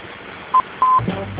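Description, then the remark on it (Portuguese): Two telephone keypad tones ring out clearly over a quiet line as the pound key is pressed after a voicemail prompt, a short beep followed by a longer held one, then a faint murmur of background noise. “Grave sua mensagem e pressione o jogo da velha. Ou pressione asterisco para contactar o operador.”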